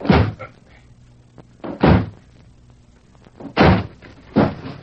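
A door at the rear of a room being smashed open by two men: four heavy, booming blows land at uneven intervals, each a loud, deep crash with a short rattling tail, and no voices in between.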